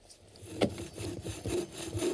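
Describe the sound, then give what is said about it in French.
Wood being sawn by hand in steady back-and-forth strokes, a rasping rhythm repeating several times, moderately quiet, with no voices. “Il achète une terre à bois et met au point un moulin à scie portatif qu'il peut démonter et assembler là où il coupe son bois, évitant ainsi le transport des billots.”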